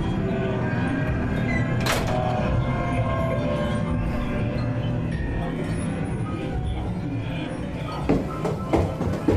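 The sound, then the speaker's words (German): A small key rattles and clicks in the lock of a small door at the end of a room, over a steady rumbling background, with one sharp clack early on and a cluster of metallic clicks as the door is opened near the end. “Am Ende des Raumes sah ich eine kleine Tür. Hallo? Sie ist zu. Ob der Schlüssel vielleicht passt?”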